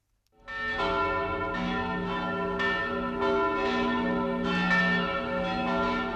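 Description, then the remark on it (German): Several church bells ring together in a dense, overlapping peal, loud and sustained, with fresh strikes every second or so and a rich metallic hum filling the air. No voices. “Stattdessen fliegen die Glocken aus den Kirchen kurz vor Ostern nach Rom, wo sie gesegnet werden und Süßigkeiten bekommen.”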